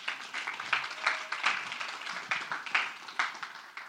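An audience at a church service applauds a youth reader steadily for several seconds, a dense wash of many hands clapping at once, moderately loud, with no voices over it.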